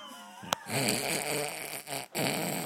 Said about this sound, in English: When she's got your mum snoring her head off next to her.